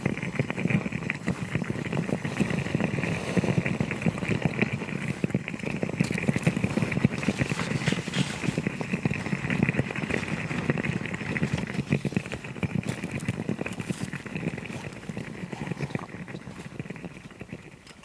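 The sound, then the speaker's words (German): A small quick steamer, made to produce a small amount of steam fast, hisses and bubbles steadily as it puts out steam, a continuous rush with a low gurgling rumble underneath. The sound holds even throughout, and no one speaks. “Das ist ein Schnelldämpfer. Damit geht es halt schneller, eine kleine Menge Dampf zu erzeugen.”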